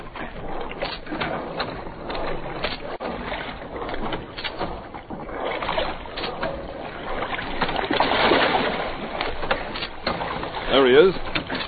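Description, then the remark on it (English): A rowboat moves through water, oars dipping and splashing in steady strokes amid continuous sloshing and creaking, with faint voices mixed into the scene. The boat is being rowed out to reach a man who has gone into the water, with a dog in the water near him. “I'll take an oar.”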